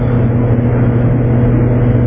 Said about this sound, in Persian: مال ماشین بیرونه. خیلی خوب، ولش کن.